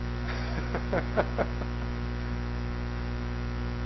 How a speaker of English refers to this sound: It's the first time I've heard a phone ring. It's buzzing. I thought somebody was snoring.